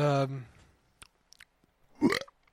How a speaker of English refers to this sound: Jesus Christ, that's a lot of burp. You burped like three times. Yeah, that's a lot for you. You're usually not the one to be burping. I'm gassy.